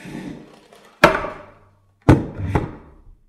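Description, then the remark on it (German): A chair is set up onto a classroom desk with three hard wooden knocks, one alone and then two close together, each ringing briefly. “Na, da werde ich mal ein bisschen nachhelfen und die Stühle hochstellen.”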